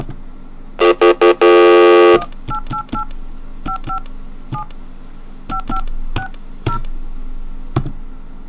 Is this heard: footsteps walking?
no